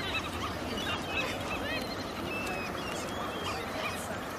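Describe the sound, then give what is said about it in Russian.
A flock of birds chatters and squawks over a constant wash of beach noise while pecking at things on a beach towel that people left behind, with short overlapping calls running throughout and no one speaking. “И тут птички обрадовались и давай там чего-то клевать.”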